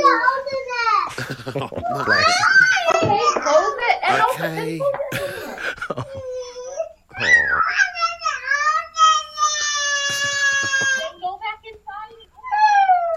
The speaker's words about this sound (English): This is a young parent leaving the house with two kids in the morning on a school run. One of the toddler gets upset because she didn't get to open and close the door.